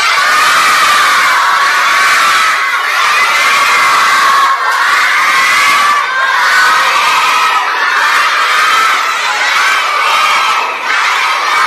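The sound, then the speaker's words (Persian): A large group of children loudly chants a salawat blessing together in unison for the well-being of Imam Zaman, a dense, continuous roar of young voices that swells and surges in waves for about twelve seconds. “برای سلامتی امام زمان یک صلوات بلند.”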